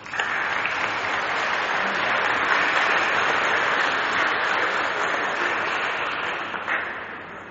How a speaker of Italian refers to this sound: prima la benedizione, vi auguro la festa di Santa Filomena, quindi facciamo applauso per noi tutti.